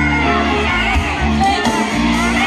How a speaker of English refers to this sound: Oh, look, Nick got applause.